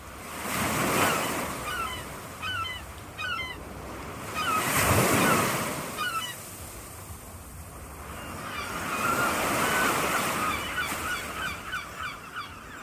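Seagulls call repeatedly in short, squawking bursts over the steady wash of ocean waves, which swell and recede in loud surges. Several gulls sound, with no voices present.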